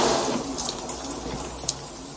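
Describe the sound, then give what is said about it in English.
Pouring rain starts, falling in a dense, steady hiss that fills the whole clip, with a brief sharper splash or patter near the end. No voices. “Right now, it's pouring rain.”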